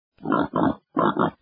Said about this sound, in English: Pigs oink